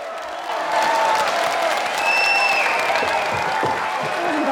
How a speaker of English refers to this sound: She cowers from the audience, but quickly realizes they are cheering and runs off wearing a huge grin.